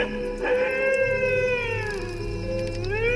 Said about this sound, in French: Aujourd'hui, le dingo.